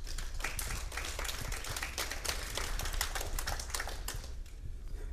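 An audience claps steadily for about five seconds, a dense, even wash of sharp hand claps with no voices, holding at a constant loudness before thinning slightly at the end.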